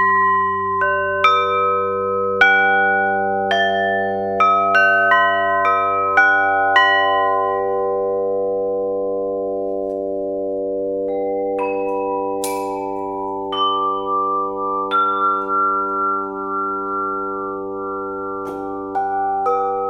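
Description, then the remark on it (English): Struck metal resonators ring out in a quick series of bright, bell-like hits, their overlapping tones merging into a sustained, shimmering hum that swells through sympathetic vibration, with a few later strikes over the drone. “I'll play the other ones, and this one will get louder and louder. Listen to that.”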